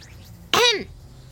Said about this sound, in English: I coughed.